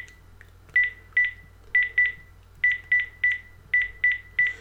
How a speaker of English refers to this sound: Let me ring my iPhone, which will then also cause my Apple Watch to ring, of course, and I can answer the incoming call from my Apple Watch. Dialing the phone number now.